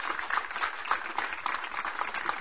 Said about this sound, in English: Clap your hands for the bridge. Amen.